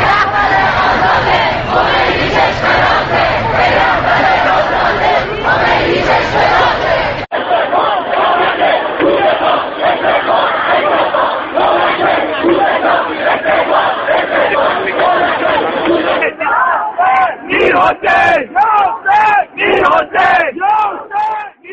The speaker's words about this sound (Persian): اما همزمان با این راهپیمایی‌ها در بسیاری از دانشگاه‌های کشور دانشجویان مراسم اعتراضی را علیه دولت محمود احمدی نژاد برپا کردند و حتی بر ضد رهبر جمهوری اسلامی هم شعار دادند.